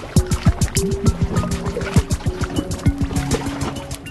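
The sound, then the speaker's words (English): Meltwater dripping from glacier ice in Antarctica, many overlapping drops plinking and gurgling in a quick, steady patter, fairly loud, with no voices. “The creaking of glaciers and the drip of glaciers and the music of the wind.”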